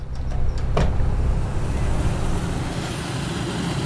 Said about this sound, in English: Boat ramps are always busy in the Keys, especially on holiday weekends.